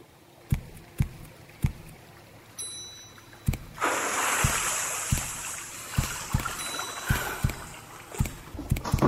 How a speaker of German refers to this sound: Halte dich links. Achte auf das Geräusch des Wassers.